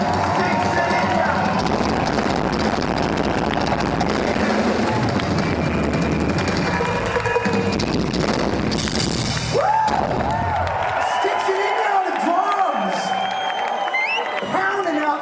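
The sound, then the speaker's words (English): A concert crowd roars with cheering and clapping for the band's drummer in a dense, loud wash that carries for several seconds, then thins as a voice shouts over the remaining noise. “Please make some noise for one of the best drummers in this band.”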